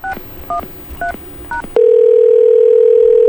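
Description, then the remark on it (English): Four quick dual-pitched keypad beeps sound in an even rhythm, then a loud, steady telephone dial tone from a phone system hums on without a break, clear, with no voices. “Now, as you can see, the system produces dial tone and busy reorders and stuff just like any other system.”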